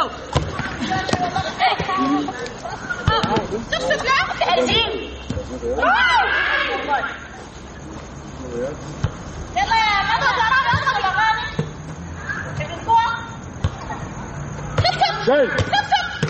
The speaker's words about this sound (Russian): Ты мяч-то веди. Продолжай вести. Не стой столбом.